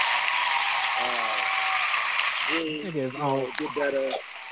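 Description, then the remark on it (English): A crowd claps and applauds in a steady, dense roar, a standing ovation from a show audience. Voices talk over the clapping, which thins out and fades in the second half. “Hey man, is that a standing ovation we get?”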